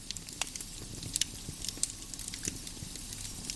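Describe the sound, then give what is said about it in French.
A log fire crackling steadily in the fireplace of a small cabin, with irregular sharp pops and snaps over a soft low roar, moderately quiet, with no voices. “À l'exception du crépitement des bûches, le silence est total.”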